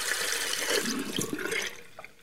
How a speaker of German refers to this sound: Für uns ist es selbstverständlich. Wenn wir Wasser benötigen, dann drehen wir einfach den Wasserhahn auf. Zum Waschen, Duschen oder Blumen gießen.